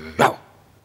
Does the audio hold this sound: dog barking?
yes